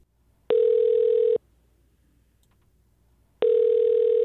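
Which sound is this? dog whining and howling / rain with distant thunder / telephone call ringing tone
telephone call ringing tone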